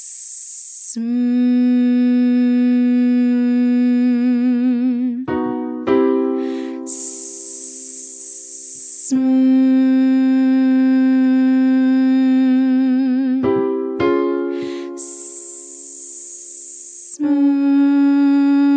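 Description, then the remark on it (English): In a vocal exercise, a voice alternates a sharp, airy hiss with a steady, buzzing hum, repeating the pattern three times. Each hum holds for several seconds with a slight wobble before the next hiss. “First exercise, hissing to a hum.”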